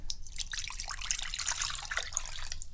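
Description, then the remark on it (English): Water runs steadily from a tap into a cat's water bowl in a bathroom, a continuous splashing trickle with bright dripping sparkle, moderately loud, with no voices. “All right, fill this one with water.”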